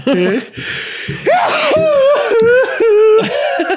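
A loud sneeze from a man bursts out, followed by several seconds of strained, wavering vocal noises, like someone groaning and half-laughing as they recover.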